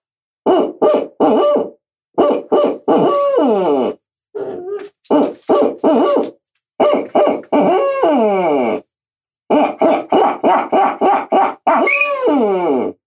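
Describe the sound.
A person imitates owl hooting with their voice, producing loud rhythmic bursts of hoots in quick groups separated by short pauses, with no talking.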